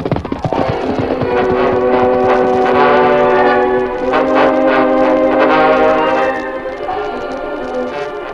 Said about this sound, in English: Sounds like the work train coming now,